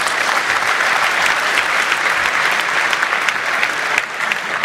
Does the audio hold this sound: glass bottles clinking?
no